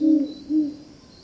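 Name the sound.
great horned owl hooting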